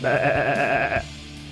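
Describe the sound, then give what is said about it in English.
A person imitates a sheep's bleat with one loud, quavering baa lasting about a second, then it cuts off, leaving only a faint low hum. “And remember, bleeding is spelt like the sheep noise.”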